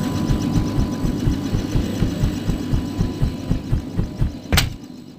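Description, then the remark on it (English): A transport helicopter engine runs steadily, its deep rapid thumping pulsing in an even rhythm, with a sudden sharp burst of noise shortly before the end. No one speaks. “Let me just climb down the rope out of our trusty transport chopper here, and we'll start the hunt.”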